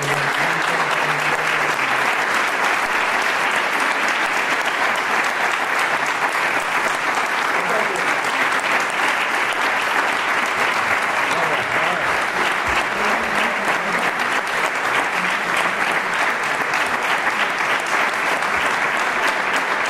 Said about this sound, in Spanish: Es una persona discreta, es una persona además con efectividad, una persona orgullosa de su tierra, orgullosa de Salamanca, orgullosa de su familia, orgulloso de sus amigos, y por eso le vamos a dar este fuerte aplauso a Julio Zendal.